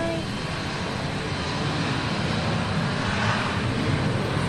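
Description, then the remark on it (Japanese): A steady, loud roar of an airplane engine, with lots of smoke coming from the engine, fills the scene as the plane begins to move off on departure for Kumamoto, a broad continuous rumble with no speech over it. “あ、動いた。エンジンね、いっぱい煙が出て、”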